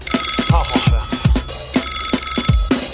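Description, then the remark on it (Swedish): A phone rings with a loud electronic ringtone, a repeating melodic pattern over punchy low thumps, playing steadily throughout with no one talking over it. “Ja, hallå, det är jävligt kul att du ringer och stör, va?”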